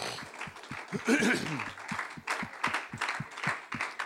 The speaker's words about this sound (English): To God be the glory for all the things that He has done. Let's give Him a hand clap tonight.